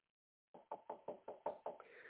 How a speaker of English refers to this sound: I'm going to knock on the door. I'm going to knock on the door right now.